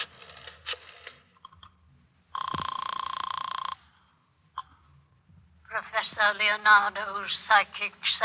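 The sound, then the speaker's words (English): A phone call being placed to Leonardo's Psychic Sanctuary: a burst of clicks from dialing, then a steady electronic tone about a second and a half long, followed by a man starting to talk. “Oh, want to use the phone? Sure.”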